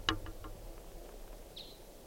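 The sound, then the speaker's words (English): Crossbill flight calls: one sharp, bright note opens, followed by a few faint clipped ticks and a short high chirp over a quiet background hiss, with no voices. “And I think they may have just flown over, but they were a really weird call type. I think they were type 5.”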